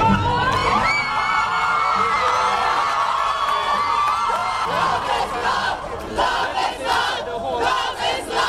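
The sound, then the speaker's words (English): A large crowd on the steps of the Hall of Justice in Port of Spain, Trinidad and Tobago, cheers and shouts loudly and continuously on learning the High Court struck down the anti-gay sodomy statutes, voices overlapping in a dense roar with whoops and cries, the excitement swelling in bursts toward the end. “Crowds on the steps of the Hall of Justice in Port of Spain, the capital city of Trinidad and Tobago, erupted in cheers on learning that the High Court had struck down the Caribbean nation's archaic anti-gay sodomy statutes.”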